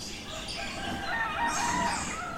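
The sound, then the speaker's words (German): At sunrise in the eco-village of Las Terrazas, Cuba, several roosters crow over one another in the open air, their drawn-out calls overlapping at a steady, fairly loud level, with a soft bed of cricket and bird chatter underneath. “Zu den Grillen gesellen sich die Vögel, dann liefern sich Hähne einen Wettstreit, um den neuen Tag zu begrüßen.”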